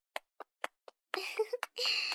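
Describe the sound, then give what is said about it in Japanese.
Four soft, evenly spaced taps of light tapping on shoulders as the finishing step of a massage, followed by a longer stretch of rustling, brushing sound with no talk. “あとは仕上げに肩を軽く叩いていきますね。”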